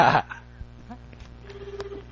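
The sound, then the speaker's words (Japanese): A short, loud burst of noise opens, followed by a faint, steady phone line tone as a phone call is dialed, humming briefly under low background noise before cutting off without the call connecting. “おっと、つながらないぞ。”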